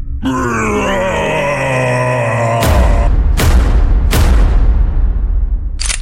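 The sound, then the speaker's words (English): A harsh, wavering groaning scream with layered droning tones holds for a couple of seconds, then gives way to three loud booming blasts and one final short burst. No one speaks. “What the Shambhala screams is that? That sounds awful, Clone 4869.”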